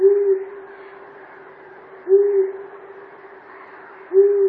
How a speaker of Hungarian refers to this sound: A Madártani Egyesület azt tanácsolja, hogy az esti szürkülettől az erkélyen vagy az ablakból figyeljük az erdei fülesbagoly jellegzetes hangját.